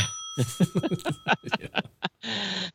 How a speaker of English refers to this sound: but sure is convenient over there just to go over there and mash the pad. I use it for my little bell here.